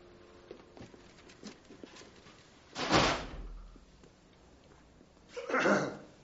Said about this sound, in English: Close the door.